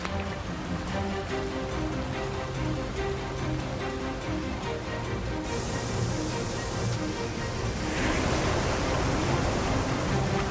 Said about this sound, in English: That is a serious amount of ice coming around the corner.